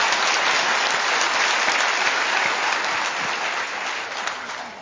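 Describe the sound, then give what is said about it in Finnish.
Steady, full applause from an audience at a celebration, for a former chairman of the board, fills the whole stretch, a dense wash of clapping hands that holds at a strong level and eases slightly toward the end. “Heimollekin aplodit.”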